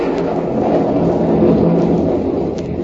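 Heavy rain pours down in a park at night in a dense, steady roar with a deep rumbling undertone, loud and unbroken throughout, with no voices present.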